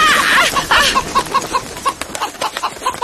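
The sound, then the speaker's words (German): A startled hen, disturbed while foraging on a damp lawn as someone tries to catch it, clucks agitatedly in a rapid, uneven string of short, squawky calls, loud, with no voices present. “Scheint ganz so, als sei die Henne nur wenig begeistert davon, dass du sie beim Futtersuchen störst.”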